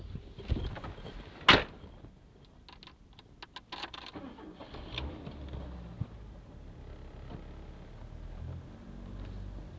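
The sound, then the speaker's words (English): A car door thumps shut, followed by a few clicks and jangles, then a low engine rumble settles in and continues steadily as the car is started and moved out. “Anyway, I'll move the car out,”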